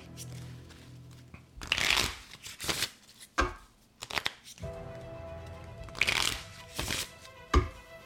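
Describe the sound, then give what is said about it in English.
A deck of playing cards being reshuffled after a Joker is drawn, with repeated bursts of riffling and bridging snaps separated by short pauses, and a faint low hum underneath. “We'll go right back into shuffling mode because we just pulled the Joker.”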